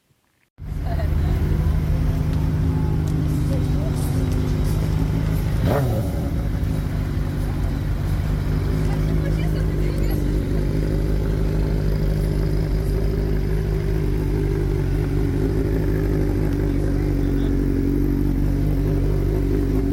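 Loud, close engines rumble continuously after a brief silent start, with a noticeable rev and pitch swoop partway through before settling back into a steady, heavy drone.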